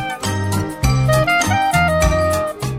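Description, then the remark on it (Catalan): The station jingle of Ràdio Balaguer: a short, bright musical jingle with layered melody lines and a steady bass pulse, played loud and continuous with no voices. “Què fem a la sintonia de Ràdio Balaguer?”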